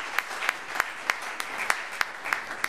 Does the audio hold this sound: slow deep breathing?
no